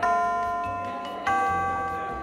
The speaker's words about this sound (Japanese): ほら、鐘が鳴ってるんだ。